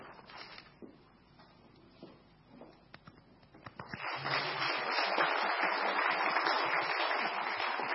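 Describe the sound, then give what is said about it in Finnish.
Scattered claps and low murmuring give way after a few seconds to a sustained wave of audience applause, dense and steady until the end. “Taputtakaa niin kauan, tulee takaisin.”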